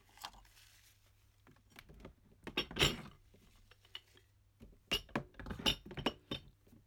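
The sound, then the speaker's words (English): Tea bags being put into the pot of a Teasmade tea maker, just after six in the morning: soft rustling and handling noises broken by a few sharp ceramic clinks, one bright clink midway and a quick cluster of clinks and rattles near the end. “So, I'm just going to put the tea bags in the pot.”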